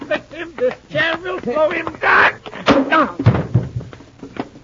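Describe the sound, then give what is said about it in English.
Amid a scuffle, a chair strikes a person with a heavy, blunt thud, followed by a few smaller knocks, while voices talk and shout. “This chair will slow him down.”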